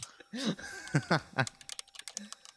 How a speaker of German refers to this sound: Ja, das ist die Sache, jetzt kann halt viel schneller tippen, wenn ich es einfach im Kopf habe. Aber das hier, Junge, ich muss halt die ganze Zeit da hingucken und eintippen